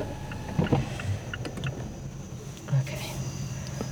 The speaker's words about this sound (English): Oh yeah, there's crickets. That's kind of nice.